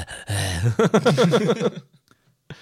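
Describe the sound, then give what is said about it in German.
Several people pant heavily and rhythmically, close to the microphone, in quick breathy, partly voiced bursts for about a second and a half, then quiet with a faint breath at the end. “Und alle schnaufen ins Mikro.”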